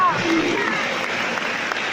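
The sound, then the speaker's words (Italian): An audience applauds loudly and steadily for two seconds, giving a strong applause to Jesus, a dense, even wash of many hands clapping, with faint voices and a brief high tone at the start mixed in. “Amen, Gesù, ti vogliamo fare un applauso forte.”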